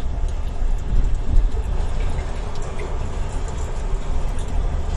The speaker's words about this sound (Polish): Hałas w samochodzie zagłuszył trochę padający deszcz. No to teraz posłuchajmy sobie tych dodatkowych wrażeń.